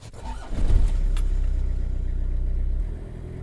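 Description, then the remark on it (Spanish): A car engine turns over and catches, then revs up with a rising hum as the vehicle pulls away, the steady rumble easing off near the end. “Alegremente subió al carro y nos pusimos en marcha.”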